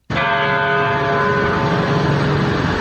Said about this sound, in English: At 9:30 this morning on the one-week mark of the massacre at Sandy Hook Elementary churches across Newtown, Connecticut, rang their bells 26 times in remembrance of lives lost. Hear the first.